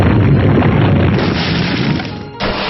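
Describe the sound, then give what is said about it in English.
A loud, sustained rumbling roar from a video game, the attack move Quake used by the monster Leonidor against Foe Erwar, dense with low booming crashes for a couple of seconds before cutting off abruptly and restarting briefly. “Leonidor used Quake.”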